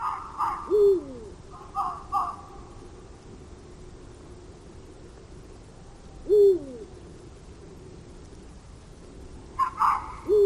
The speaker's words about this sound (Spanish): Bueno, aquí escuchábamos dos cosas. Escuchábamos unos ladridos de un zorro, esa especie como de grito que también se oye aquí, y escuchábamos también un búho real.